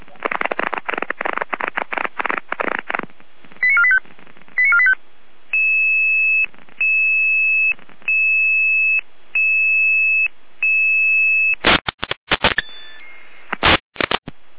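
German fire brigade radio alerting tones calling out the Bergwacht Meutelbach mountain rescue to an incident at Lothra, Kochnitz: a burst of crackly radio data, then a series of five steady electronic tone pulses with short gaps between them, loud and clear, followed by more static bursts.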